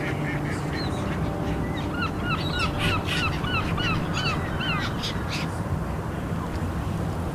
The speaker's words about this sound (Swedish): Överallt är här massor av fåglar.